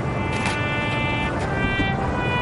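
Bells chime hourly at a memorial where Americans lay flowers, with sustained, overlapping metallic tones that ring steadily throughout, set against a dense, rumbling background wash with no voices.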